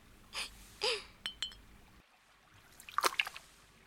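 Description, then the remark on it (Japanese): Ramune soda being poured into glasses on a moonlit night: a few short fizzy splashes, a pause, then a denser bubbling burst near the end, fairly quiet with no talking. “一緒に飲もうや。ラムネだがな。”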